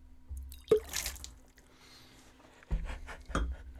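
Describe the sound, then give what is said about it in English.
Wine from a freshly uncorked bottle is poured into a glass during a wine tasting, in a few short splashing bursts with dripping sounds, separated by quiet pauses and a faint steady hum in the background. “And we'll pour a little bit out here.”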